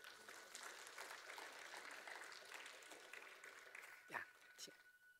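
A crowd applauds steadily for about four seconds, a dense wash of clapping at even loudness that tapers off near the end, with a couple of louder thumps as it fades.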